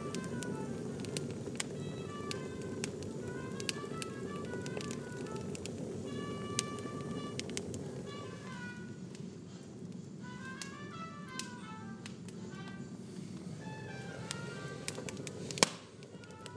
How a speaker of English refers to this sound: I'm drawing your attention to the fire, the wood fire, wood burning fire.